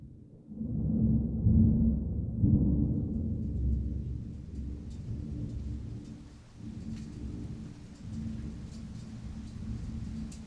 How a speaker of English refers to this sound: The downpour started a few hours ago. There's no predicting when it will end.